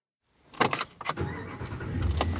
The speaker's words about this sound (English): Okay. So here we are, in a very large truck. Probably unnecessary that I rented this big of a pickup truck. But here we are. We are driving into Yellowstone. And there's no one here.